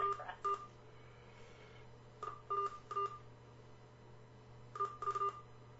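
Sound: phone keypad button tones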